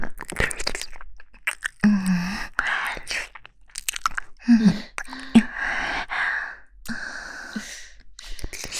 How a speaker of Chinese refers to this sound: 看你这狼吞虎咽的样子，还真让我……去他妈的吧！喂，给我留一点儿。